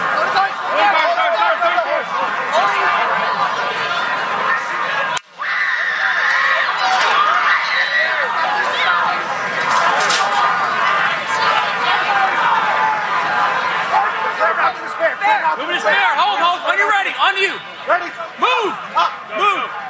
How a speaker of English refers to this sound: The crowd has been screaming. They are standing by. You can hear some voices there saying, are we ready to go? Are we ready to go?